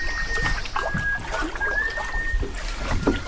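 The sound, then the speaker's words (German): Soft water lapping and gentle trickling around a yellow canoe drifting slowly on the Oust, a calm small river near Redon in southeastern Brittany, France, with a steady low rumble and a faint high whistle-like tone running through. No talking. “dann lasse ich mein gelbes Kanu auf der Oust treiben, einem ruhigen Flüsschen nahe Redon im Südosten der Bretagne”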